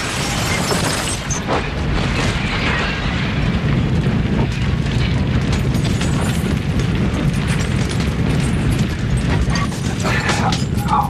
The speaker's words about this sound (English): The explosives under the bed start to spark. The apartment blows up and glass and debris rain down on the street below.